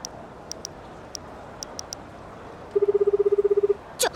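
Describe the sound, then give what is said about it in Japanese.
Seven short, quiet phone keypad beeps at uneven intervals as someone starts making a phone call, followed by a louder, rapidly pulsing tone lasting about a second and a brief final chirp. No one speaks. “急に電話しだしてどうしちゃったのよ。”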